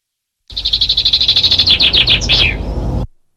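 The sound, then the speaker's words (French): A Eurasian blackbird sings loudly in a garden, opening with a fast run of bright, high repeated notes before breaking into a few swooping, falling phrases, with a faint low rumble behind it. “pour poursuivre notre exploration des chants d'oiseaux du jardin. Celui du merle nous accompagnera de ses mélodies.”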